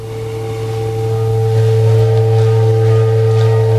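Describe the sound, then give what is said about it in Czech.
A water bell instrument, which with its water surface weighs about 80 kg, sounds a sustained, resonant tone with a deep low hum and steady ringing overtones during a concert, swelling slightly in loudness and holding unbroken throughout, with no voices. “Zvuk nástroje, tedy vodnářského zvonu, je doplněn, jak jste říkal, tou projekcí”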